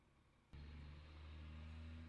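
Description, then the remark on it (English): A heavy truck engine kicks in abruptly after a brief quiet moment, then holds a loud, steady, deep rumbling drone with a low droning hum. No voices. “It begins with a truck sound.”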